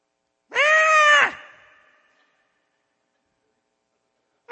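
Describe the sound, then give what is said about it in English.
A wounded rabbit distress call from a predator caller used to attract coyotes: a loud, strained, high-pitched squeal that fades out slowly, followed by silence before another cry starts at the very end. “It's one of them is a wounded rabbit.”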